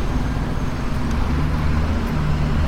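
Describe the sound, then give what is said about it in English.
Steady street traffic rumbles at the corner of John and King just after stepping off a bus, a dense low engine drone with passing cars and a heavy vehicle idling, continuous and fairly loud with no talking. “Stepping off the bus. Falling we're off. We're at the corner of John and King.”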